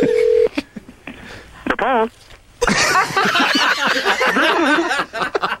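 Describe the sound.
A phone is dialed: a steady tone, then a quick run of keypad beeps, followed by loud laughter and several people talking over each other.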